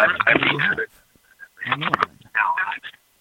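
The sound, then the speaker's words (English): A phone call comes through on air: a thin, narrowband telephone voice speaks in three short bursts separated by brief pauses, sounding tinny and compressed against a quiet line. “I think we have a phone call.”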